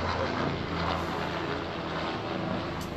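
A news helicopter flies low overhead in downtown Riverside, its engine and rotors making a loud, steady roaring drone with a deep throbbing hum that holds for the full three seconds, with no voices.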